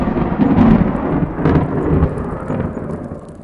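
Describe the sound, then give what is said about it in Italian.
Heavy rain pours steadily while deep thunder rumbles and rolls through, swelling in waves before slowly fading. A loud, strong thunderstorm with downpour that forced the skylights of the Girolamini library, with no voices. “Il forte temporale ha forzato i lucernai.”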